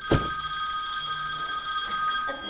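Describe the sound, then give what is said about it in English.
A telephone rings with a steady, high electronic tone that holds unbroken for a couple of seconds, opening with a brief sharp click. No one speaks over it. “That's God calling.”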